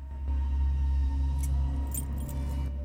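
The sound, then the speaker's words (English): A few brief, bright metallic jingles of a key being taken in a garage come in the second half, scattered and light, over a steady low droning hum that runs throughout. “Nikki takes the key and leaves the garage, pulling its door down closed.”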